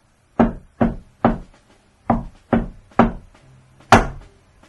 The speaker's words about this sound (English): So we approach the door. And somehow we know the secret knock.